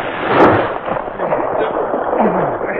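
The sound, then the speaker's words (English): Ice on a lake gives way with a loud, rumbling roar, opening on a sharp crack that flows into a sustained, grinding noise lasting a few seconds, with faint voice-like sounds mixed in. “As they approached the shore where Preston's dog team was waiting, a sudden loud rumbling was heard behind them. The ice is giving way.”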